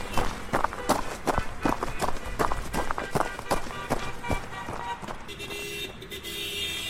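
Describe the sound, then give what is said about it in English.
Quick, steady footsteps of someone jogging through traffic toward a gas station, thudding over a busy traffic background; the running stops and a car horn or alarm tone sounds near the end. “I jogged through the traffic and over to the gas station.”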